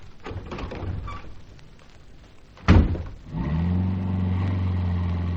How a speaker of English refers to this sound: There's Barbara in the car. Hurry! Hurry! I've got the car started.